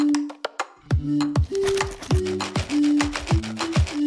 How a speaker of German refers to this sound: Immer mehr Instrumente kommen dazu. Die Käsereiberatsche.